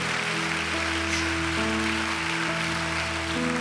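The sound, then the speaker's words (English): A church audience claps in praise of Jesus in a dense, steady wash of applause lasting several seconds, while sustained keyboard chords shift underneath. “If you believe this today, give Jesus a great hand clap of praise.”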